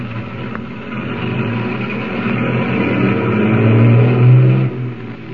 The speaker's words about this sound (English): Saved from almost certain disaster, Tumbleweed's motorcade of tank trucks continues on its way to the Bear River Refinery.